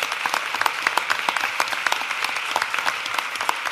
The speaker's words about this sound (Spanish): Me gustaría finalizar con un aplauso de vosotros, a vosotros mismos. Gracias por haber venido.